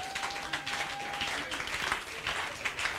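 audience clapping

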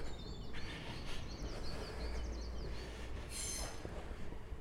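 train passing on rails

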